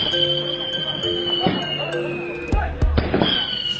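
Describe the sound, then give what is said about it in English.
Firecrackers pop and crack in quick, irregular bursts amid a noisy, bustling crowd at a wedding celebration in China, with sharp bangs standing out loudly over a steady background hiss and a few tonal whistles. “Firecracker safety goes out the window.”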